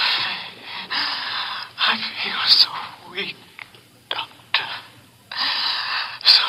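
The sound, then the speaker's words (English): Labored gasping breaths of a man during heart surgery come in a ragged series of harsh, airy bursts with brief pauses between them, fairly loud, with no clear words spoken. “He's gasping.”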